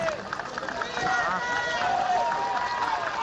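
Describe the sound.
Dozens of citizens cheer and clap as King Felipe arrives in Vigo to inaugurate the Ciudad de la Justicia, a steady, dense roar with many voices shouting over continuous applause at moderate volume throughout.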